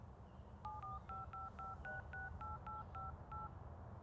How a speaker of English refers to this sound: Give me your phone, and I can type in my number.